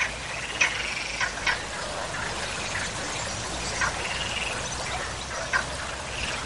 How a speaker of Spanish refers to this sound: Ahora nos despedimos con ese sonido de las ranas que poblaban esa boca del túnel de la Engaña.